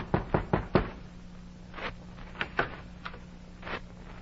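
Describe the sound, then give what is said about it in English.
Four quick, firm knocks on a wooden door in a steady rhythm, followed by a few softer, scattered thuds over a faint low hum, with no voices. Elijah Hammersby, a boat owner and former planter, knocks at the printer's door in Boston on October 1st, 1831. “And the record shows that on October 1st, 1831, Elijah Hammersby, boat owner and former planter, knocked at the printer's door.”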